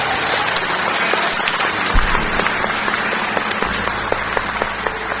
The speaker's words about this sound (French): Applaudissons-le encore une fois.